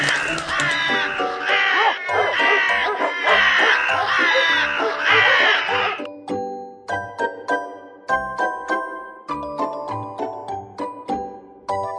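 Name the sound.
crows cawing loudly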